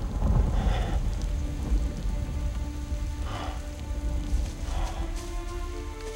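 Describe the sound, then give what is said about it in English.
Steady rain falls during a thunderstorm, a dense wash of noise with deep low rumbling underneath and a few brief brighter swells, with no voices present. “Rain falls as Tarzan creeps on all fours toward the fallen leader.”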